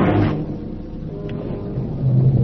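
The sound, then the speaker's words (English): Steady rain falls in Berlin at night, hissing across the whole clip while a deep, rolling rumble of thunder swells underneath, growing louder again toward the end. No voices are present. “Outside, it was raining.”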